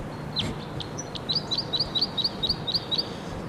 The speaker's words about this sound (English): And now at 7:57, there's a wild male here. I'm not sure if this is the same bird that was here and recorded just prior to this, but it's in the same perch.